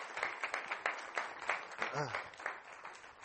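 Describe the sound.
An audience applauds with dense, steady clapping for a few seconds, and a brief voice rises above it partway through.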